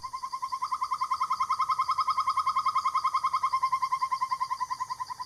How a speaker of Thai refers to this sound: จะได้ยินเสียงร้องของพวกนกกลางคืนบางชนิดด้วยเช่นเสียงร้องของนกเค้าโมงที่หลายคนก็อาจจะเคยได้ยินกันบ้าง